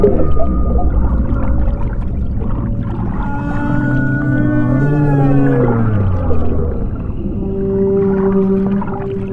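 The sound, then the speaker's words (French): Whale-song sounds made by rubbing small rubber balls on the lid of a large bubble-shaped garden container, lined with a bin bag filled with water and with microphones inside: loud, continuous, eerie moaning tones that slide up and down in long wavering glides over a low rumble, with no talking. “Et puis il pose ses micros, il ferme et il frotte le couvercle avec des petites balles en caoutchouc.”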